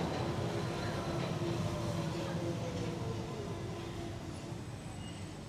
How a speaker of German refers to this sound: Gleis 1, Einfahrt Purpose Express nach Köln-Porz. Vorsicht bitte bei der Einfahrt.